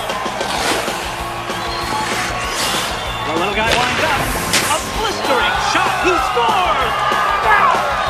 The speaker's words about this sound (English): Sweet! The crowd go wild as the Nuggets equalize.